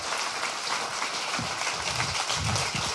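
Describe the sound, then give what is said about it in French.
An audience applauds a speaker after a speech, a steady, dense wash of many hands clapping at an even loudness throughout, with no voices standing out. “on a laissé d'abord les applaudissements que tu mérites.”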